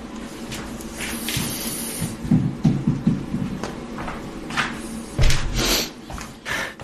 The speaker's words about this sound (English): Sniff was not mine. It was on one of the tracks. It's not, as you'll have gathered, music, just ambient studio sound, representing what the people behind the album claim could happen to original music if artificial intelligence is offered a free rein